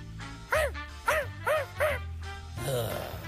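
A dog barks four times in a fairly quick, even rhythm, each bark short, sharp and moderately loud, followed by a stretch of low rustling background noise.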